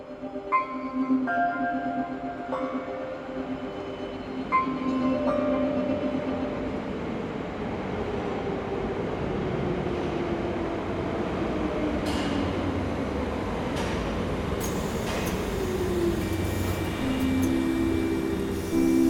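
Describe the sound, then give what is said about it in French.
A metro train rumbles steadily along the -1 subway platform, with tonal whines and electric hums rising and shifting over a continuous loud roar, plus occasional sharp squeals from the wheels. “la direction du BIO envoie nos deux agents préférés enquêter sur une fuite d'informations sur le quai du métro -1.”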